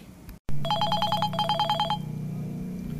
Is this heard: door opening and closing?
no